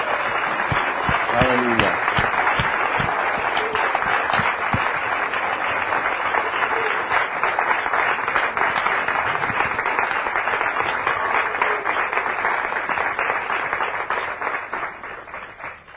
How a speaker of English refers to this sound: Let's give applause. Vamos a dar un aplauso a Dios. Aleluya.